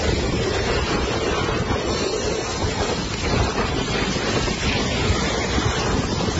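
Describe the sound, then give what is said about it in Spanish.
A loud, steady roar of strong storm wind gusts blowing without pause during a storm in Spain, a dense rushing noise, with no voices present. “Hasta 8 comunidades autónomas y varias provincias están en alerta por riesgo de lluvias y fuertes rachas de viento.”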